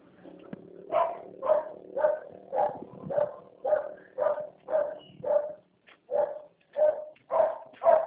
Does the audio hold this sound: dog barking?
yes